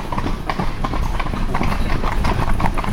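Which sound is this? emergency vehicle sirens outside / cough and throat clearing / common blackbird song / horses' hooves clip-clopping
horses' hooves clip-clopping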